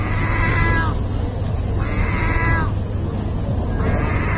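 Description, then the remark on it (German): A gull in Turkey, standing in front of a food dispenser for stray cats and filmed on a mobile phone, gives three drawn-out, cat-like meowing calls at a steady pace, each a wavering tonal wail, set against a constant low rumble of background noise. “Und dann legt sie los und miaut.”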